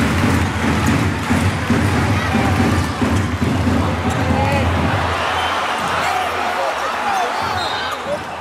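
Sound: arena crowd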